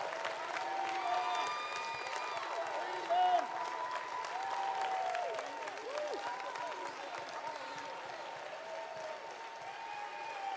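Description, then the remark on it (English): An audience at a revival service claps loudly and steadily for the Lord for about ten seconds, a dense wash of applause with scattered shouts and cheering voices rising over it. “Give the Lord the biggest clap you've ever given Him before.”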